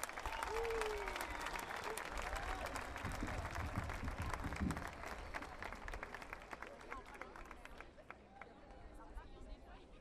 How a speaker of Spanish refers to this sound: A continuación, estará con nosotros y nosotras Alberto Acosta, de Ecuador, expresidente de la Asamblea Nacional Constituyente de Ecuador. Fuertes aplausos, por favor.